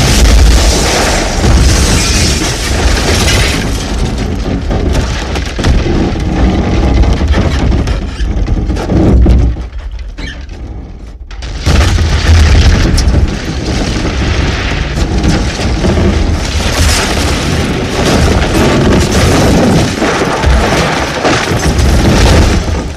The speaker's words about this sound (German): Ein dumpfer Aufschlag, dann ein gleißender Blitz, Explosion. Die vorderen Fenster der Dienststelle barsten, der gesamte Eingangsbereich wurde zerfetzt. Splitter, Rauch, Druckwelle.